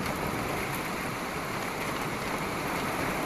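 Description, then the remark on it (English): Heavy, torrential rain from an arriving storm pours down in a steady, dense hiss, loud, with no breaks or voices for the whole stretch. “Starting to come in. So this is it, huh? This is us getting nailed.”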